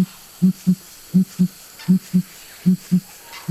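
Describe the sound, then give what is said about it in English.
Deep, booming calls of a crowned pigeon, a turkey-vulture-sized blue-gray pigeon with an iridescent purple chest. Low hollow notes come in pairs, repeating in a steady rhythm about four times, clear over a quiet tropical forest background. “Meet the crowned pigeon.”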